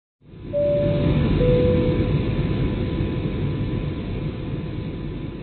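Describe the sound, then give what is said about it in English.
Steady, heavy roar of an airliner cabin in flight at 35,000 feet above the Atlantic Ocean, en route to Northern Europe, a dense low rumble that fades in quickly and holds constant, with a couple of faint brief tones early on and no voices. “and we will, in fact, go over European investments on the Disciplined Investor at 35,000 feet above the Atlantic Ocean on my way to Northern Europe.”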